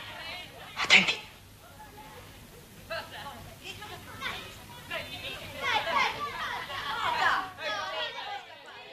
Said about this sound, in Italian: Siamo durante l'ora di ricreazione, come potete sentire un po' dal vociare dei bambini